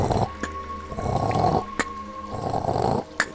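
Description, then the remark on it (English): Giant stone gears flanking a massive stone door far down a hallway grind in long, rough, rumbling swells, punctuated by three sharp clicks spaced about a second and a half apart. No voices. “Even from here, now that the chaos has died down, you can hear a grinding, clicking sound.”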